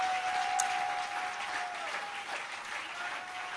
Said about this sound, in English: I will love, oh, you can clap your hands. Don't sit down yet. Don't sit down. Clap these special hands.